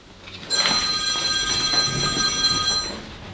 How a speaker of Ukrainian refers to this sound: дзвонить. Алло.